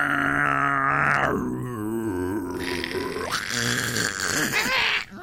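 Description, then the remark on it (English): Someone vocally imitates a cardboard crusher, making one long, loud, continuous groaning drone whose pitch grinds and wavers up and down for about five seconds, with no words. “What are the sonorous sounds of the cardboard crusher?”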